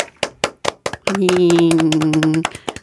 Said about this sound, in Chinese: 那我们掌声欢迎他出场吧。